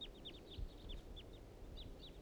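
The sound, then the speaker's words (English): Wild birds flying around a clearing near a trap site, calling in a rapid, overlapping series of short, high, downward-slurred chirps, fairly soft, over a low steady rumble, with no talking. “The wild birds are coming back.”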